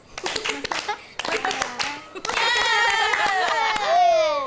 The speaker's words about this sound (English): You all are so clever. Clap for yourselves.